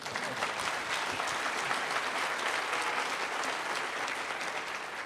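An audience applauds steadily for a Zimbabwean opposition leader who got out of jail, a dense wash of many hands clapping at an even level for the full stretch, with no voices rising above it.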